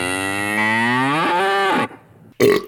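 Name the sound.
cattle mooing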